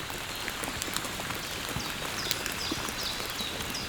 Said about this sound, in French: Une pluie fine.